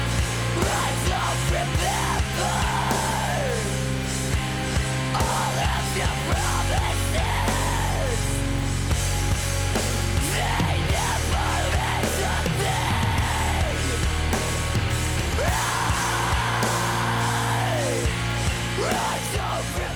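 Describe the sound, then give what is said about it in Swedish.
A loud, dense emo song plays throughout, with driving full-band instrumentation and raw screamed vocals rising and falling in repeated strained phrases. “Ja, det här är ju verkligen emo om något då, med de här skriken vi hörde här.”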